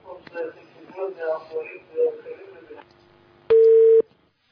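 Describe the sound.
A muffled voice of a caller from Jordan talks over a phone line, then the call drops and the line goes quiet before a loud, steady electronic dial tone sounds for about half a second and cuts off.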